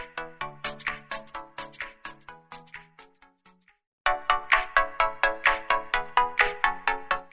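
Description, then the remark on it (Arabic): A melodic phone ringtone of an incoming call to the radio station Tisinat FM plays in quick repeating notes, loud, pausing briefly partway through before the tune starts again and keeps ringing. No one speaks. “ومعانا تليفون ونقول الو.”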